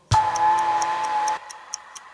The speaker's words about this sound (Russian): Ненароком я услышал, как тикает бомба.